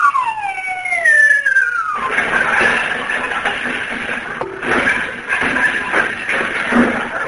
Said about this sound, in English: Yeah, and I can hear him walking around on the roof. He's getting ready to come down the chimney.